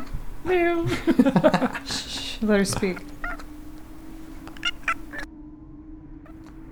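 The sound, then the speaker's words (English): A cat gives a couple of short, high meows, partly overlapping a person speaking quietly, followed by softer chirps and light background murmur. “So you change into a cat, obviously, and those are the tiny noises you make.”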